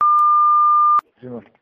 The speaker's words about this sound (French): Je ne suis pas là pour l'instant. Laissez votre message. Après le bip sonore.